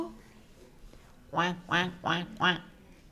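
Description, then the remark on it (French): Someone imitates a duck with four loud, nasal quacks in quick, even succession, after a brief soft murmur of voice at the start, during a children's rhyme about little ducks going off on the water. “Alors deux, trois, quatre petits canards s'en vont sur l'eau.”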